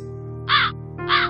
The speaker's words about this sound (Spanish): Los cuervos anunciaban que era hora de regresar, que no sería más que otra búsqueda infructuosa.